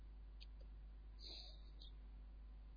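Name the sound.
nightingale singing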